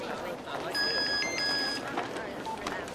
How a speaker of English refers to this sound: on her way out of the building when her phone goes.